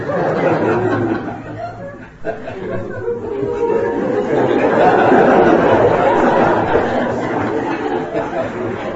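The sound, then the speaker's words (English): A crowd of people calls out cuckoo imitations all at once, their overlapping voices merging into a steady, loud babble mixed with chatter and scattered laughter. “Would you like to try? Everyone, cuckoo sound.”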